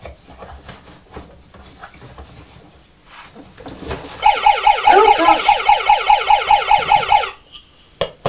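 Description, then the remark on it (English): A toy police car siren blares in a rapid, repeating electronic whoop for about three seconds, after a stretch of quiet handling noise, then cuts off abruptly. It was set off when a train track pressed against the toy police car. “Train track pressed against the police car and set the engine off, didn't it?”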